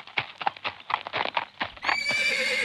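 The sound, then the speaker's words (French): A horse ridden by a man approaches, its hooves clip-clopping in a quick, steady rhythm, then the horse lets out a loud, drawn-out neigh that rings to the end. “lorsqu'il voit venir un homme à cheval.”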